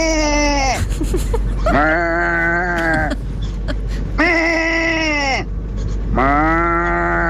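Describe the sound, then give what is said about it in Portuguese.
One person imitates a sheep's bleat in two tones, alternating between a higher and a lower tone, four drawn-out, wavering baas in all, loud with brief pauses between them. “Não, é o mesmo ouvinte a fazer dois tons de ovelha.”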